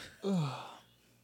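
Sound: person yawning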